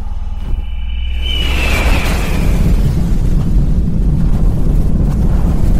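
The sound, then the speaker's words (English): Rocket engines of an Apollo 5 launch build to a loud, continuous rumbling roar at liftoff, swelling after a brief quieter start and then holding steady and heavy, with no voices; liftoff at 7:51 a.m. Eastern Standard Time. “We have ignition sequence start. The engines are on.”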